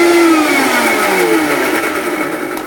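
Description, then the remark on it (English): A kitchen blender blends a mixture with a minimal amount of water, running loudly and steadily with a whirring motor hum whose pitch slowly drops as it churns, with no voices over it. “Blending away.”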